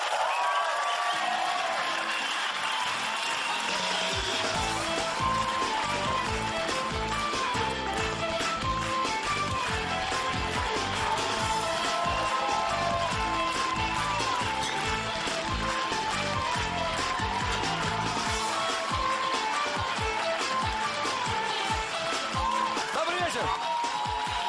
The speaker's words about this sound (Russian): Потому что я под ваши аплодисменты приглашаю на сцену Антона Лирника.